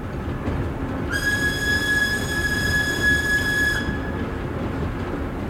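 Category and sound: vehicle, train running on rails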